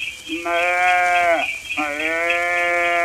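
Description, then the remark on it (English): A calf bleats twice, a wavering, nasal cry that dips in pitch at the end of the first call before a second, longer bleat follows right after. “Oh, look, below, a calf.”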